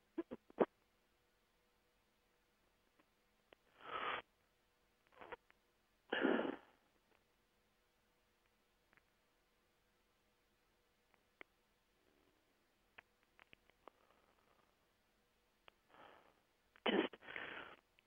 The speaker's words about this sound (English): Excuse me, I got the coughs right now.